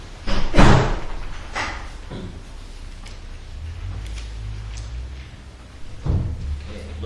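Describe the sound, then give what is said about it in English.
A heavy back door is pushed shut with a loud thud, followed by softer rattles and a low rumble, then a second bump near the end as it settles closed. No one speaks. “Can somebody close the back door, please?”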